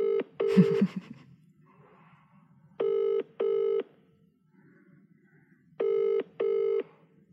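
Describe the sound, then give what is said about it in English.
A quick burst of dialing tones, then a phone line ringing in paired electronic trills repeated twice with pauses between, clear with a faint hum underneath. “I don't think he'll answer the phone because he's currently terrorising landlords.”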